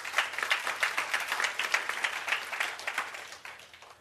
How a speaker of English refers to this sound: It's good to finally find someone to clap for, isn't it? The Lord. The Lord. We've clapped for a lot of things in our lives, haven't we?